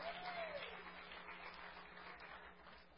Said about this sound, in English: Oh, clap your hands anyway.